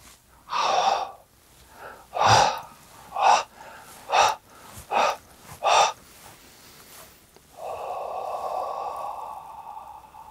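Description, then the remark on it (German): Audible breaths drawn in and out in a quick series of sharp, gasping pulses, ending with one longer, steady exhale; no one speaks. “Das Ein- und Ausatmen.”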